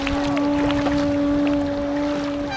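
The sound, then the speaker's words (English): A boat's engine drones steadily with a constant tonal hum, while water splashes and churns against the hull as it carries swimmers to Alcatraz around 8 a.m. Continuous, no voices. “Around 8 a.m., the PathStar swimmers board a boat to Alcatraz.”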